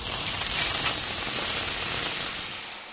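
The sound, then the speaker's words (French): Water from a calabash that fell when its braided vine broke spills across a hut and splashes onto hot embers: a steady, bright sizzling hiss holds for about three seconds before easing off slightly at the end. There is no talking. “L'eau se répandit dans la case et de belles éclaboussures recouvrirent les braises.”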